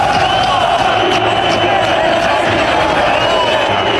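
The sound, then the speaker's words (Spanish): A stadium crowd at El Sadar whistling at players, a steady, shrill wash of overlapping whistles riding over the constant roar of the crowd, with occasional sharper whistle bursts standing out. “Pero bueno, si fueron 4 pero gritos del resto de la afición. Sí, sí, no, que se oyen pitos.”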